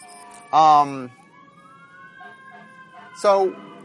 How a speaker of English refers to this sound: Get out of the way of the fire truck.